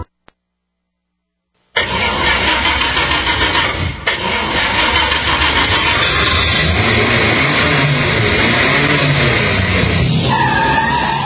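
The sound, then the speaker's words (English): After a moment of silence, a loud hot rod drag racing engine roars in with screeching tires, its pitch rising and falling as it revs hard, continuing without pause to the end. “Mainly Jesus and my hot rod.”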